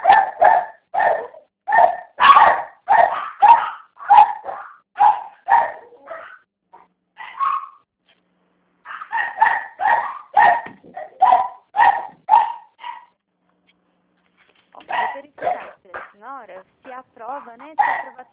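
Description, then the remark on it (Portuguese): A small dog barks in quick, sharp, loud bursts, pausing briefly between volleys, then breaks into higher yips and whimpering whines near the end. “Fui ali rapidinho prender o cachorrinho.”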